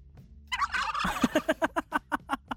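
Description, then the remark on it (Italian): A turkey call played by a voice assistant: a loud turkey gobble, a rapid warbling burst followed by a quick run of about ten evenly spaced, descending gobbling pulses. “Oh, io voglio il tacchino. Tu vuoi il tacchino. Ok, Google, verso tacchino.”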